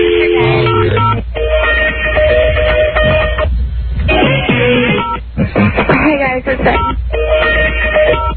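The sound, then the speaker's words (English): Telephone keypad tones beep in steady, sustained bursts separated by short breaks, heard over a thin phone line from a caller in Louisiana stuck in a phone menu system, with a voice talking alongside them. “Maybe that's why I couldn't get the keypad to work. Do you remember how to get back to the main menu? Was it hit zero?”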